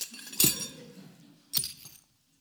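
Two sharp, bright crashes about a second apart, each followed by a brief glassy tinkle of scattering fragments, like a vessel shattering into shards, with no talking.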